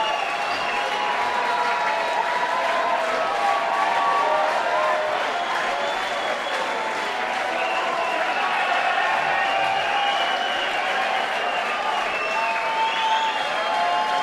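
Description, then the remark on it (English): A concert crowd cheers and applauds steadily for the whole stretch, a dense, loud wash of voices and clapping with scattered whoops rising above it. The slight swell partway through is an extra cheer as a roadie, dressed in black with a black hat, comes out to set Jack's guitar back up. “The roadies are all dressed in black with black hats, and that small extra cheer was one of them coming out, setting Jack's guitar back up.”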